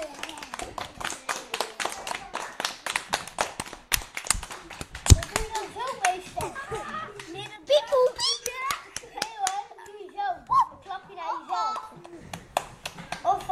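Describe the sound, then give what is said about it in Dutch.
A small group of children clapping for themselves after reading a story aloud claps in a quick, uneven burst for a few seconds, then excited kids' chatter and voices take over while scattered claps fade out. “Ja, je mag wel even voor jezelf klappen.”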